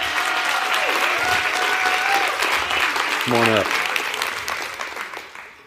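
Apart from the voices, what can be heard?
audience applause and cheering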